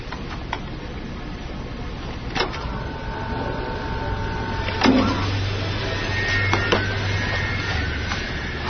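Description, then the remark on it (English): A few sharp mechanical clicks, like a tape player's pause button being pressed, over the steady whir and low hum of the machine's motor, with no one speaking. “Well, pushing the pause button ain't gonna help her none.”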